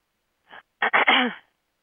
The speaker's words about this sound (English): Tonight, as we work, we're going to be doing a lot of clearing, which means sometimes I have to clear my throat a lot